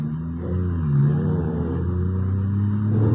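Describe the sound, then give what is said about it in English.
A car engine hums steadily, its low drone rising and shifting in pitch as the vehicle accelerates, a continuous smooth rumble with no voices. “Sure is a smooth car you got here, Ranger.”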